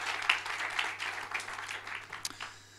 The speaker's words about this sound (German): Kann man schon mal klatschen.